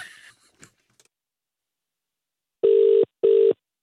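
A phone line's ringback tone sounds twice in quick succession, a loud, steady electronic double ring heard through the earpiece after a moment of near silence with a few faint clicks.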